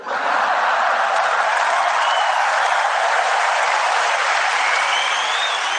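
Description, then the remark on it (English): A huge crowd roars and applauds without pause, a dense, loud wash of cheering and clapping that holds steady the whole time, with a few whistles rising above the noise. “That crowd is so big, so amazing.”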